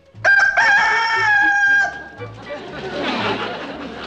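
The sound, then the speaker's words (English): A rooster named Charlie lets out one loud crow lasting about two seconds, its call strained and rising, followed by a rough, noisy hiss and rustle with no talking. “I told Charlie he could come in and crow the names.”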